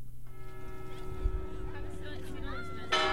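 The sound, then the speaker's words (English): A fog bell clangs once and rings on with a long, steady, humming tone as a group of 50 children exits down a ramp from a ferry at the Angel Island Immigration Station in San Francisco Bay; a crowd of voices chatters in the background and a louder rush of noise comes at the end. “The fog bell clangs, and a group of 50 children exit down a ramp from a ferry to the Angel Island Immigration Station in San Francisco Bay.”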